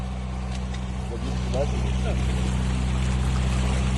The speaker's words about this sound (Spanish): Este que escuchas es el sonido de las lanchas con muchas personas que están rescatando, pues, a vecinos de casas y edificios totalmente anegados por el agua.